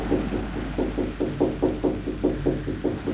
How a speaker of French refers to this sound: Luc, Luc, ouvre, c'est très urgent. Elle frappe encore une fois.